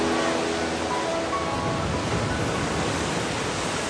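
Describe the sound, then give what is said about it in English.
Steady, loud wash of surf on a beach, a continuous roar of ocean waves breaking, with faint tonal hums early on and no distinct individual crashes. “Passing families and other beachgoers, she strolls into the ocean.”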